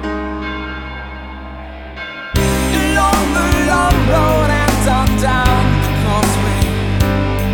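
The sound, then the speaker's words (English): A deep church bell tolls with a long, resonant ring, layered over sustained instrumental music that swells in loudly after a quieter opening. No one speaks. “The ringing of the division bell had begun.”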